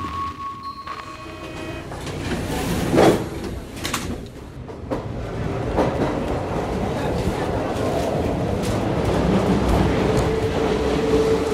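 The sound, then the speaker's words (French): A Paris metro train on Line 3: a brief whine and the clatter of sliding doors, then a steady, loud rumble as the carriage gets moving, with faint murmuring voices in the background. “Donc voilà sur la ligne 3 du métro parisien, une ligne qui traverse Paris du nord-ouest à l'est, plein est.”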